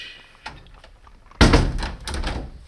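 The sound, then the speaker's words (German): The door of a four-horse coach shuts with a solid thunk, immediately followed by a rough, continuous rumbling clatter as the coach moves off; a faint click comes just before. “Der Vierspänner, in den er gerade gestiegen ist. Siehst du ihn? Da, jetzt fährt er ab.”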